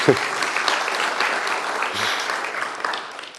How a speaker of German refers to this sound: Ja, kann man klatschen, ist eine gute Sache.